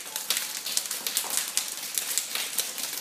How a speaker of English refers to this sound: Very cold now. It starts to rain. And when it won't rain, and when it won't rain, let's go out. Let it drop. Then these are the drops of the rain. Yeah, this one is the sound of the rain that we usually teach.